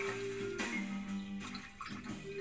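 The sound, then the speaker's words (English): Water splashes and sloshes steadily as someone jumps into water that is too deep, a continuous churning wash with a few brighter splashes and no one speaking. “It's too deep! Just stand up, girl. You're not much of a swimmer, are you, Aelia?”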